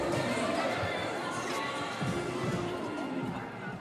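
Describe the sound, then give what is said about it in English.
A dense, steady crowd murmur fills the scene, many overlapping voices blending into a continuous hubbub, with occasional thumps and faint music-like tones woven through the noise. The crowd is at Angel City Pride Night in front of Bank of California Stadium, with dancing, drag queens and voguing. “So this is Angel City Pride Night, and there is dancing and drag queens and Vogue and everything else in front of this stadium right now. There is quite the crowd.”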